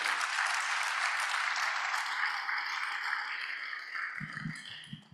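A crowd applauds the host steadily with dense, continuous clapping that slowly thins out, and a few low voiced sounds appear near the end as the applause fades.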